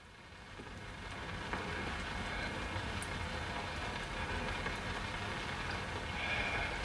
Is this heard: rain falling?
yes